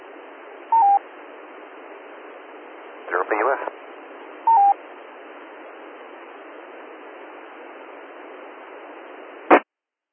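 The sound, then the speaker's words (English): Two short keypad dialing beeps sound a few seconds apart over a steady, hissy phone-line noise as someone dials a phone call to the Elbert County Sheriff, with a brief garbled burst between them and a sharp click near the end. “Sure, let's, we can make a phone call to them.”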